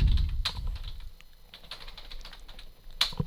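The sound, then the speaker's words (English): Rapid, irregular clicking of keys on a computer keyboard, a steady stream of light taps with a few sharper strokes, fairly quiet, with no voices. “I was having keyboard difficulties.”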